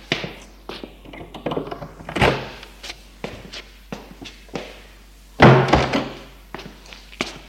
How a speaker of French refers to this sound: Et il sort de la salle à manger. Elle ouvre une porte et ils entrent.